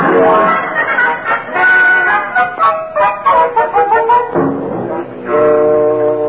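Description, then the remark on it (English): A man imitates a duck as the Kingfish character with 'duck fever', letting out a loud stream of nasal, honking quacks that runs almost without pause for several seconds. “That's just what the kingfish is doing. Duck fever.”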